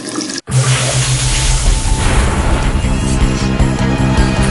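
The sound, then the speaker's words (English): Water gushes steadily from a tap in a bathroom, a loud, continuous hiss and splash that starts almost at once after a brief silent break and runs unbroken to the end, with a low hum beneath. “always run the water automatically when I go to the bathroom.”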